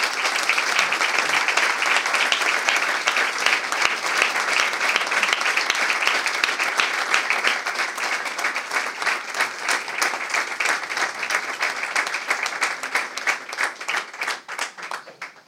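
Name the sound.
applause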